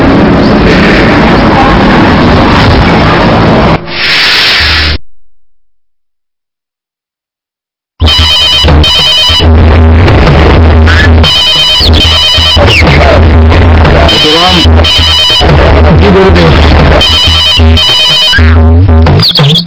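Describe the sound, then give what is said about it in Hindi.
A telephone rings loudly in repeated bright bursts with short gaps, following a dense, noisy opening and a few seconds of silence. “मैं नगर सेठ का भाई बोल रहा हूँ। परमानंद जी को फोन दो।”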